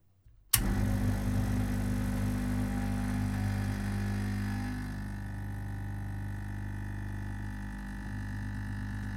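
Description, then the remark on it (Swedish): An espresso machine switches on abruptly and hums steadily while brewing a small cup of espresso, a loud low droning with a constant pitch that eases slightly in intensity partway through, with no voices present. “Och jag tillredde en liten kopp espresso. Svaret är alltså en espressomaskin.”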